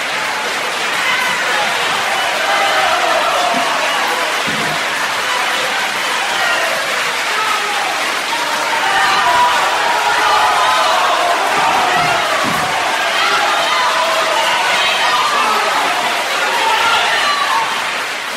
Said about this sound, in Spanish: cuando el fiscal concluyó el periodo de pena, la sala estalló, literalmente, en un largo y hasta entonces contenido aplauso. Fue imposible al personal policial desalojar el lugar, tal como enérgicamente lo ordenaba el presidente del tribunal,